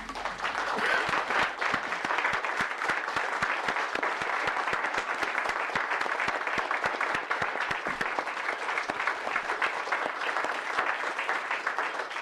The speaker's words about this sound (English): And I would ask that we give them our hearty congratulations through a round of applause, Mr. Speaker.